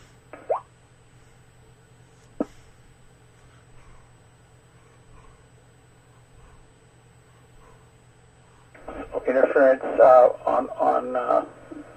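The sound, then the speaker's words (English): Two brief pops early on, then near the end a few seconds of garbled, warbling radio repeater transmission with smeared, distorted voice-like tones over a faint steady hum; interference sounding like multipath with another station, occurring only when the repeater keys up. “It kind of sounded like I just had multipath with another station, but only when the repeater keyed up.”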